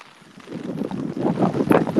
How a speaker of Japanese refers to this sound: あ、風がすごい。雨もやばいし、風もすごい。